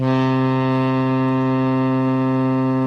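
A loud, deep boat horn blasts in one continuous, steady tone for the whole stretch, rich in stacked harmonics, with no speech present.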